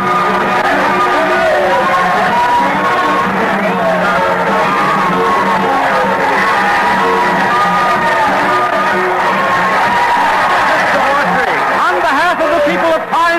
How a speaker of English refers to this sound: Crowd started yelling. The band started playing, and the mayor came forward to greet us.